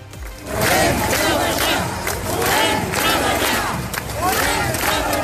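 A large protest crowd in Girona chants 'volem treballar' (we want to work) in unison, loud and continuous, with rhythmic swells of shouting voices repeating the phrase several times. The protesters are from bars, restaurants and beauty salons, which were forced to close during the pandemic.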